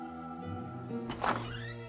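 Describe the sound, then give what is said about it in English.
A door is opened with a short, muffled thunk and a brief rattle partway through, over a low, steady engine-like hum that continues throughout. “Linda opens the door.”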